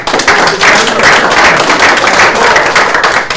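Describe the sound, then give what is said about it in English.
Steady applause from an audience, dense overlapping claps sustained at an even, fairly loud level for a few seconds without any talking. “Everyone clap”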